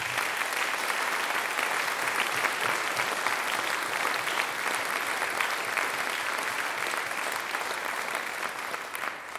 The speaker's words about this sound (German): Und ich möchte mich da ganz herzlich bei allen Eltern, die dermaßen unkompliziert die Jugendmusik und ihre Kinder unterstützen, ich möchte einfach mal Danke sagen. Ich glaube, das ist ein Applaus wert für die Eltern.